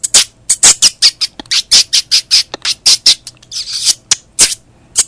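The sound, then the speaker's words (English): A voice imitates the call note of an elepaio bird with a rapid run of sharp, high squeaky chirps, about twenty bursts in quick rhythmic succession, fairly loud, with no speech. “Well, that's a call note. I can't do a song, but it does sound like elepaio, something like that.”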